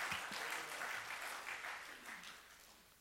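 An audience breaks into a round of applause, a dense, steady patter of many hands clapping together that gradually thins and softens toward the end. No one speaks over it.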